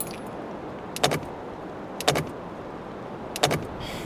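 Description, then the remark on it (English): A car's combustion engine fails to start, with no power to the engine: three brief clicking, whirring bursts of a starter at roughly one-second intervals, each dying away without the motor catching, over a steady low hiss. “Why doesn't it work? I don't think there's any power to the engine.”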